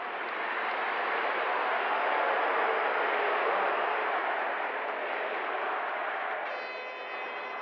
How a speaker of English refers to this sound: You can hear the crowd at the end booing him, but then also chanting, "We want Barry." The New York Governor Rockefeller was repeatedly interrupted by boos.